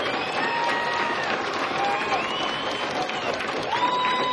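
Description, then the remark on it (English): A large concert crowd at a live show at the Old Waldorf in San Francisco keeps up a steady roar of applause and cheering for an encore, with shrill whistles cutting through now and then, sustained and dense throughout. “Well, the crowd's not giving up.”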